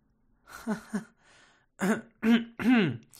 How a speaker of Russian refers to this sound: Я прочистила горло и с трудом удержала мелодию.